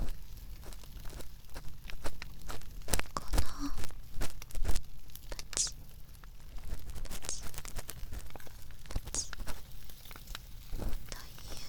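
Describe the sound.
A crackling fireplace, lit to warm the room, gives off irregular sharp pops and snaps over a steady soft hiss, with a few louder crackles scattered through and a faint whispery voice now and then.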